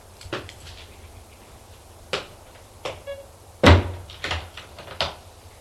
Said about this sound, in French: La porte s'ouvre.